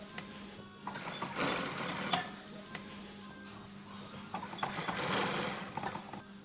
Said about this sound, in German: In einem Hangar, bis unters Dach gefüllt mit großen und kleinen Pelzstücken, sitzt ein alter Mann an einer Nähmaschine.